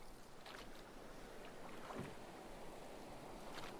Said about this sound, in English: The coast is littered with villages, their tiny fishing boats giving a wide berth to our strange ship, and our oars gliding in unison along the dark waters.